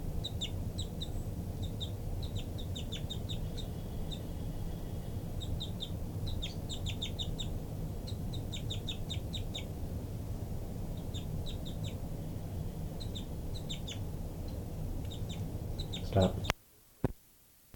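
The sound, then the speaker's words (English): High, thin bird calls repeat in quick clusters throughout: short flight calls by a bird numbered 59 and insistent begging notes from its chick, over a steady low rumble, ending with a couple of sharp clicks. “Flight call by 59, begging by the baby.”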